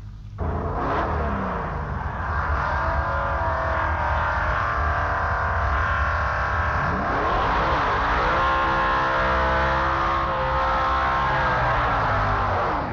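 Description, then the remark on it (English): Two Pro Stock drag cars doing burnouts, Tony Dixon's back in the bleach box and Gary Goggin's, a loud, continuous engine roar with revs climbing and falling in sweeping pitch changes throughout, no voices. “Two stockers burning out there, Tony Dixon burning out back in the bleach box and Goggin burning out directly underneath us.”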